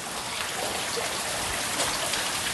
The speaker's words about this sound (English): The problem with mines is that once you cut into rock, you get this, water. And you've got to get rid of it because it runs downhill. This mine has to have 30 million litres pumped out every day.